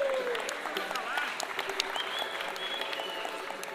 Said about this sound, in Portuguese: Uma salva de palmas pro